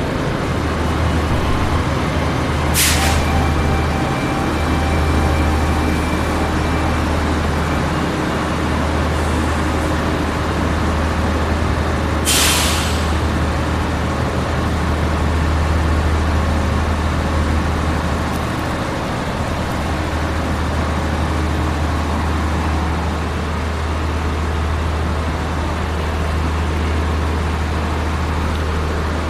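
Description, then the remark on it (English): Steady low rumble and engine drone of a passenger train arriving at platform 7 of a station in Adelaide, with two short sharp hisses of air brakes or doors, and no voices. “There's a train now arriving on platform 7.”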